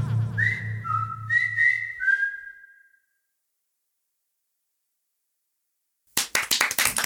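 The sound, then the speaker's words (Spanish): In the studio of the show Basta, several loud, shrill whistles ring out over a low pulsing hum for a few seconds. After a pause of silence, a group bursts into energetic clapping as applause for Marcos López. “Después de un bache, hacemos el aplauso para Marcos López, aquí en Basta.”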